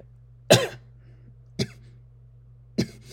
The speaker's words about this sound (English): Sorry, just coughing there.